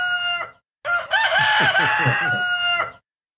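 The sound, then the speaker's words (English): A rooster crows loudly: a short opening burst, a brief pause, then one long, wavering cock-a-doodle-doo, with no talking. “if you're listening to the podcast in Mexico, or you're checking in and you got your own, you got your chickens and your hens in your field, just blast this.”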